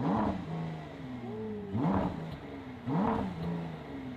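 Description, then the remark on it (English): The hydraulics of a Ford car whir up and down in three quick cycles, each a loud motorized whine that swoops upward in pitch before settling, with no one talking. “This thing's fast. Well, at least the hydraulics are.”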